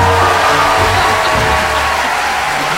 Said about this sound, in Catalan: No t'esperaves, eh? Porta tot el matí aquí esperant a aplaudir quan arribessis, sí, els aplaudiments aquí tothom. Carai, carai, quina rebuda. L'aplaudiment, els aplaudiments aquests tan macos que tenim.